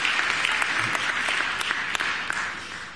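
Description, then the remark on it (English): A crowd applauds the opening of the PATH in Hoboken with dense, steady clapping that holds at an even, fairly loud level for the full three seconds, with sharper individual claps popping out of the wash. “And that deserves a cheer, okay?”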